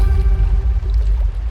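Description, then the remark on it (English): A squirrel paddling through water, a steady swish and gurgle with a heavy low rumble running throughout, no voices. “There's something moving in the water.”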